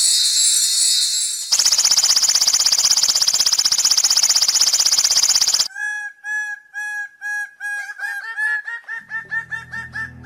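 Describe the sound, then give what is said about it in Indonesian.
Bird of paradise calls: a loud, harsh buzzing screech lasting several seconds, then a rapid series of sharp, repeated whistling notes that quicken toward the end. No voices. “Atas kekuasaan Tuhan, seketika itu Wowoy berubah menjadi burung cendrawasih yang indah.”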